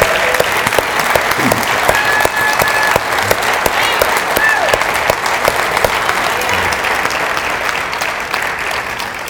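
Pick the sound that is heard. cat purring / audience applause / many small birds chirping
audience applause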